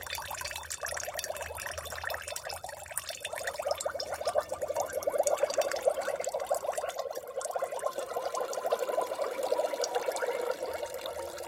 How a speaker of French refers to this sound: L'eau coule par le trou dans l'aquarium.